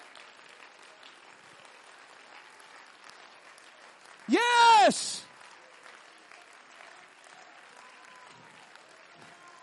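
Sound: audience clapping hands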